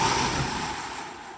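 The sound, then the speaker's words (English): A steady, whooshing gust of eerie wind, like a spooky sound effect, fills the moment with broad hissing noise that slowly fades a little. No one speaks over it. “One, just a scary wind.”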